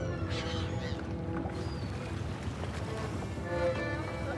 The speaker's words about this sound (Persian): توی یک کافه ساحلی